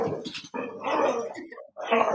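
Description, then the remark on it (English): A dog barks and yelps in three or four drawn-out bursts with short gaps between them, fairly loud, with no other sounds around it. “But once again, prophesying, my dogs will be making lots of noise.”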